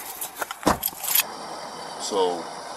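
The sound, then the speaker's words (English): Metallic clicking and rattling of a seatbelt buckle being fastened around a passenger in the back of a car, a quick cluster of sharp clinks, followed by quiet cabin hum and a brief murmured voice. “And real quick, I'm just going to buckle you up just so...”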